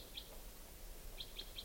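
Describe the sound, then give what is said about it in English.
A wild bird, up in a larch tree foraging, calls with short, high-pitched chirps: one near the start, then three evenly spaced notes in quick succession, faint over a steady background hiss. “This is the wild bird.”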